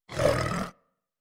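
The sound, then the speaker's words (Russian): A single short, rough growl from a young bear cub, lasting well under a second, then stopping abruptly into silence. “Мама медведица и маленький медвежонок.”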